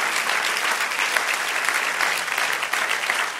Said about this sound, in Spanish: Amén, dale aplauso. Celébralo. Amén.